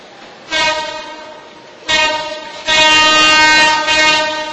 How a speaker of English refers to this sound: Keep hearing a train. I don't know why. Do you hear it? Okay. So I'm not going crazy.